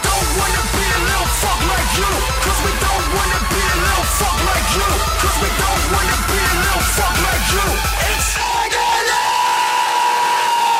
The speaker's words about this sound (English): You just hear the screaming, blood, people running around.